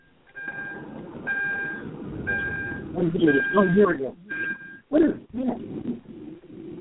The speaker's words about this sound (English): I'm hearing a bell. Someone's in their car, and I'm hearing the call.